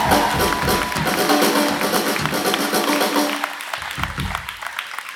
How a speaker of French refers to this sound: Et surtout, un grand merci à vous tous! Applaudissez-vous!